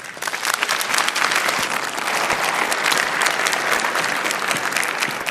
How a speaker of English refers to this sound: So please give a very, very warm, welcoming, good morning applause